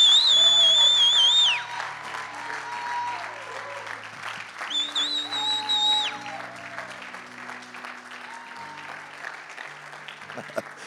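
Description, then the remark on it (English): A large crowd applauds and cheers for a couple on their anniversary, with two loud, sustained piercing whistles cutting through early on and again midway, while the clapping continues at a steady, slightly quieter level. “And so on their anniversary, I think it'd be awesome tonight to hoot and holler and whistle and say, ma'am, what an amazing first couple you've got.”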